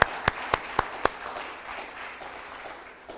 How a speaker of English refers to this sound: Yes, this is the day, and let's give God a big round of applause.